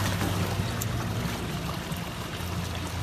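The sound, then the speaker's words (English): People in a small boat bob on ocean waves above what was once an island, with music playing aboard. Steady water wash and a low, droning hum run continuously throughout, with no voices. “There's some people in a small boat bobbing around in the ocean, and they've got some tunes going as well.”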